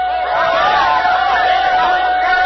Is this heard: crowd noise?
yes